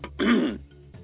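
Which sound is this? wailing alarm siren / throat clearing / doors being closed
throat clearing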